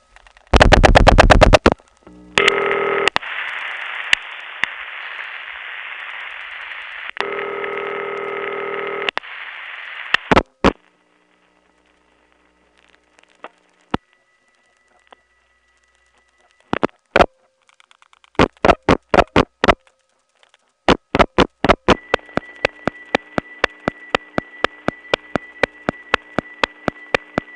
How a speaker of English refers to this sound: This is a call to the supervision test. I'll now dial the last digit. You'll hear the trunk hum just for a few milliseconds before the ring starts.